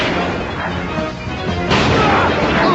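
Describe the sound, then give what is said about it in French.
Dense, booming video game sniper rifle gunfire fills the scene with a constant battle roar, growing louder and harsher partway through, with no clear pauses between shots. “alors eux aussi ils ont des fusils de sniper, donc ça veut dire que ça va être un peu chaud pour moi.”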